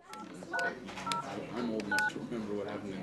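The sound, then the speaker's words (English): Several short touch-tone dialing beeps sound at an uneven pace, ringing out clearly over a steady murmur of many people talking at an Organizing for America volunteer phone bank in the Washington headquarters of the Democratic National Committee. “That's what it sounded like at a phone bank in the Washington headquarters of the Democratic National Committee this week.”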